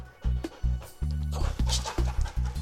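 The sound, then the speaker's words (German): Tiger, a police dog trained to search for missing people, sniffs for human scents while searching for a hidden person in a storage room. He sniffs and pants in quick, rhythmic bursts, roughly three breaths a second, each puff carrying a low rumbling huff beneath a hissy, breathy edge, with no talking. “Jetzt weiß Tiger, dass er nach menschlichen Gerüchen schnüffeln soll.”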